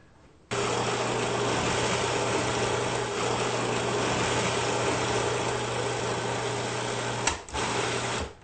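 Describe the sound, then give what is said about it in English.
A food processor, processing carrots and onion, switches on abruptly and runs with a loud, steady whirring drone and low hum, briefly stuttering near the end before continuing, with no talking. “Okay, so let's turn on our machine, process it.”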